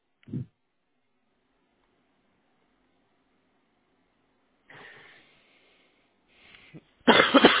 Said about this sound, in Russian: Прошу прощения. Нормально, я тоже кашляю.